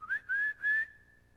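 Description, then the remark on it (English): A person whistles at a woman in a store in the Jim Crow South: three quick rising notes, each slightly higher, the last one trailing into a steady fading tone. Clear, with no talking around it. “You do not whistle at a white woman in Jim Crow South.”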